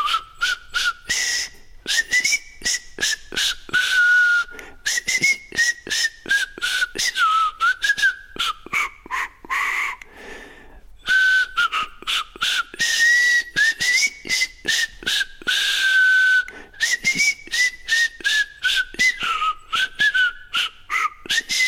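A solo whistled medley runs continuously, a bright tune gliding and warbling from note to note with a lively, steady rhythm, clear, with a brief pause near the middle.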